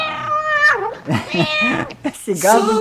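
A hungry cat meows loudly, a drawn-out wavering call followed by several shorter, whiny meows in quick succession, with no other sounds around it.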